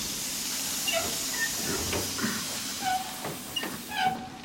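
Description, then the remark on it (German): A steam train hisses steadily throughout, a broad continuous rush of escaping steam, with occasional metallic clanks and brief high squeals over it. No one speaks. “Mit diesem Zug sollte das Gold nach Berlin gebracht werden.”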